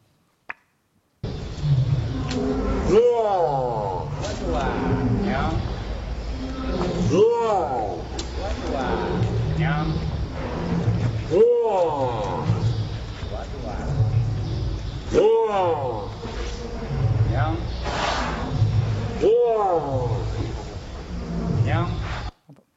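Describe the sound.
A female elephant mimics a word spoken by its trainer, putting its trunk in its mouth to shape the sound. Its low, voice-like imitation alternates with the trainer's spoken word about five times in a regular rhythm over steady background noise.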